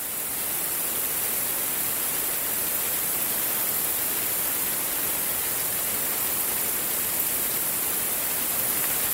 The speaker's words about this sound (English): Sounds a bit like rushing water, but actually it is thousands upon thousands of bats flying overhead. Can you just picture that scene?